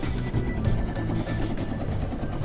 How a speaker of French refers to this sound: Oh, regarde! Un hélico!